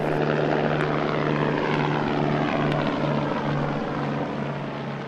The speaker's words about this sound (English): The Valo is just one version of what's called an electric vertical takeoff and landing aircraft, or EVTOL.